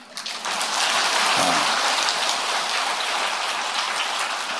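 An audience claps steadily for several seconds, a dense, even patter of many hands with no voices over it, holding at a fairly constant level until the end.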